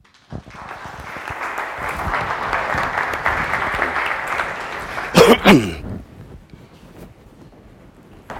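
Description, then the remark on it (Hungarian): Steady applause from a university lecture audience welcoming the speaker before a talk on Hungary's environmental future fills about five seconds, a dense crackle of many clapping hands, followed by a brief loud thump and rustle before the clapping fades out. “Köszöntsük őt egy tapsal!”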